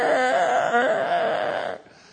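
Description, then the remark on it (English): A voice imitates the screech of a windscreen wiper that has slipped off, its bare metal dragging on glass, as heard on switching on the wipers in pouring rain: a loud, high, wavering squeal lasting under two seconds with two stuttering judders, then it cuts off. “And I turned on the windscreen wipers to hear that absolutely hideous sound that we've all heard, where the windscreen wiper has slipped off and the metal is just now on glass going...”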